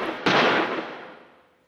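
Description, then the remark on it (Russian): A single gunshot from a meadow cracks out sharply, then rolls away in a long fading echo. No voices accompany it. “И тут они услышали звуки выстрелов, доносившиеся с луга.”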